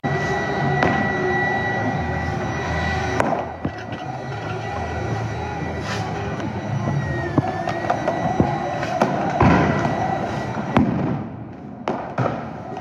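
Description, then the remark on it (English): A dense protest crowd in Portland roars and murmurs while sharp bangs and pops burst out irregularly as federal agents fire munitions into the crowd and protesters throw tear gas canisters and fireworks back at the federal lines, several loud reports cutting through the steady noisy din. “Feds shot more and more munitions into the crowd, and protesters tossed back canisters of tear gas and fireworks into the federal lines.”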